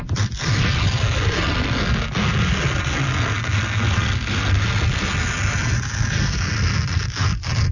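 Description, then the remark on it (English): Paper tears slowly and steadily for several seconds as ASMR, a loud, continuous ripping roar with heavy low rumble and a few sharper crackles, making a sound like a rocket ship taking off. “I see what we did there because it's tearing into the paper.”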